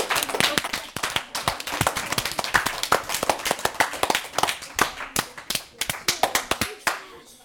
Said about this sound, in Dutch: Dan geven jullie een hartelijk applaus.